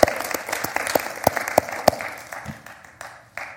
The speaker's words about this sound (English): On this Independence Day, again, how many of you served our country in various... Put up your hands. Look up hands. I applaud you. Let's applaud them. Applaud you people.